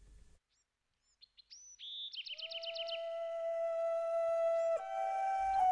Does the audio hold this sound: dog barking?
no